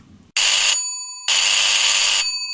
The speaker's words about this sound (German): Viel zu laut meldet sich mein Telefon.